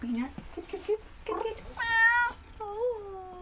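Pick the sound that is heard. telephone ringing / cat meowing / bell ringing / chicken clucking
cat meowing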